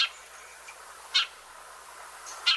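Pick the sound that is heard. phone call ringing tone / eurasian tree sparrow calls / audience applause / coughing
eurasian tree sparrow calls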